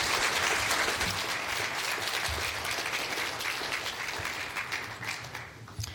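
A crowd applauds steadily, a dense wash of many hands clapping that stays fairly loud and full before thinning slightly toward the end, with no talking over it.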